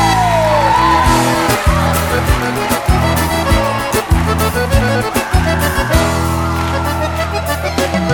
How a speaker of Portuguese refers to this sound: Cadê o grito dos cachaceiros aí?